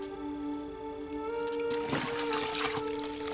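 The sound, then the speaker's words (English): Water runs steadily as food is rinsed, a soft continuous hiss that turns splashier and more uneven in the second half, over a constant low hum. No one speaks. “It helps me too, you know, to just watch the water flow.”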